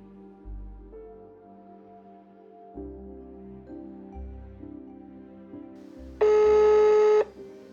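A telephone call being placed: a series of steady electronic dialing and ringing tones changing pitch in steps, ending in a loud, buzzy beep near the end. No one speaks.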